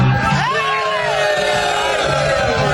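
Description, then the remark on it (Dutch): AZ football fans cheer and shout together inside a bus heading to Rotterdam for a match, a loud, steady crowd roar with rising whoops and voices blending into a continuous chant-like din. “Heerlijk sfeertje in de bus.”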